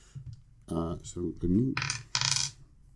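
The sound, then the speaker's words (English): Three dice clatter across a hard tabletop in a game's heart roll, which fails, rattling in a few quick bursts before settling, with a brief murmur of voice near the start. “Anyway, heart first, three dice, and I fail, so that's interesting.”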